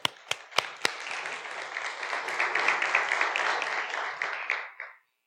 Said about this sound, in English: Listen, if you can get these people to clap, you have accomplished something, I got to tell you. So you got them without me telling them to clap. So fantastic.